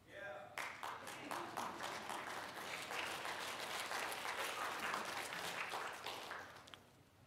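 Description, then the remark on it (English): Audience clapping breaks out suddenly and carries on steadily for several seconds, a mix of sharp, energetic claps and softer, uneven ones, before tapering off at the end. “I got a few really energetic claps and then some courtesy claps on that from some of you.”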